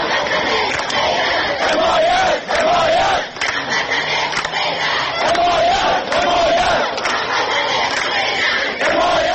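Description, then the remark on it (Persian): A large protest crowd of citizens of Ahvaz and other cities of Khuzestan province, gathered in front of the provincial governorate building over water and power cuts, chants slogans calling for support from people of other cities. The chanting is loud and sustained, with rhythmic repeated shouted phrases rising and falling over a dense roar of many voices. “مردم این شهرها در شعارهای خود خواستار حمایت مردم سایر شهرها بودند.”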